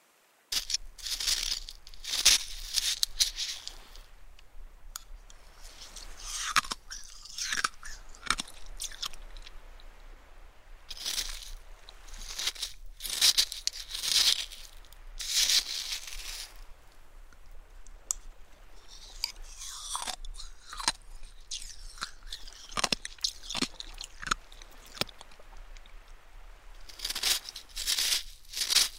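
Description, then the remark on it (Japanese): Crisp, crackling crunches of thin, small pieces of shaved ice (kakigori) being chewed, in irregular bursts with short pauses between bites, bright and brittle with no talking. “この薄くて小さい氷をガジガジって噛んだ時のこの氷が割れる音がなんだかすっきりした感じがするの。”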